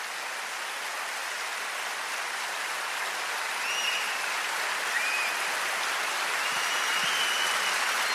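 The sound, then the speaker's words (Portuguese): An audience in a church applauds in a steady, dense wash of clapping that holds an even level for about eight seconds, with no one speaking over it. “Quero que as pessoas comecem a aplaudir, porque a maldição acabou nessas casas.”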